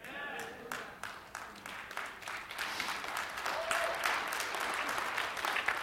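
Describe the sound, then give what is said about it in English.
A church audience at Christian Celebration Center applauds with a dense patter of many overlapping claps, fairly soft at first and swelling slightly before holding steady; no voices stand out. “That was very weak, but I know you feel stronger about that than that clap.”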